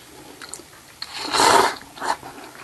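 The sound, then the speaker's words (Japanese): Noodle slurping of Chicken Ramen instant noodles topped with an egg, eaten after moving house in place of moving-day soba: a long, loud, airy slurp in the middle, followed by a shorter one and a few faint mouth sounds at the start. No talking. “今引っ越しそばならぬ、チキンラーメンすすっております。”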